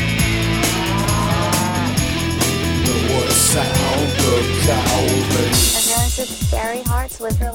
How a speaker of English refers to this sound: The cow says